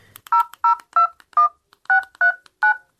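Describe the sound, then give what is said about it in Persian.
A phone number is dialed on a keypad: seven short, evenly paced touch-tone beeps, each a bright two-note electronic tone, sounding alone with brief silences between them. “خواه باش که می نمبر دایل کنم.”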